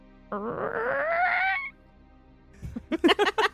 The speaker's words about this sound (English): Creaky wooden back door.